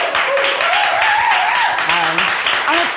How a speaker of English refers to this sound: So let's have a little round of applause. Thank you.